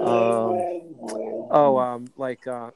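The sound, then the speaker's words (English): A husky growls and whimpers in drawn-out, voice-like moans, then lets out two short, rising whines; fairly loud and heard on its own. “Yes, I'm having some dog issues. That's what I hear in the background. It sounded like my stomach growling. It's a husky.”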